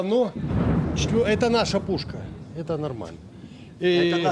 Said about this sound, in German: Das ist eine Kanone von uns. Das ist in Ordnung.